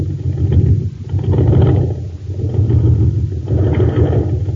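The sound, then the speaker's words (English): A jet boat engine, the Shooting Star racing at an aqua jet boat race on Mars on ordinary fuel, sputters and chugs, its loud low rumble surging in four uneven bursts with brief dips between, never settling into a smooth roar. “The driver is filling up the tank with ordinary fuel.”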